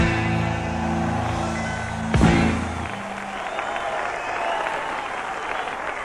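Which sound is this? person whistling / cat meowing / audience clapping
audience clapping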